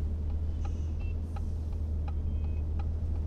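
A car drives along with a steady, loud low rumble from inside the cabin, while a soft, evenly spaced ticking repeats throughout. No one speaks.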